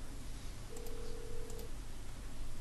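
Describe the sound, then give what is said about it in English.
A single steady telephone tone sounds for about a second, like a line ringing or dialing before a call connects, as someone places an April Fools' prank phone call, over a constant low background hiss. No one speaks. “anyway, here's the April 1st prank. I called him and said I was Google, and we fixed the problem with his phone number.”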